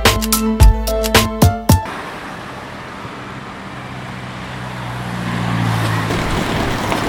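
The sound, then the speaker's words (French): A burst of short, harmonic horn-like blasts gives way to a steady wash of car traffic in Marseille, France, with engine rumble swelling as vehicles pass. No one speaks. “Le bruit des voitures, c'est horrible.”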